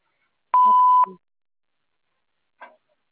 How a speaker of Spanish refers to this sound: Por favor, deja tu mensaje después del tono.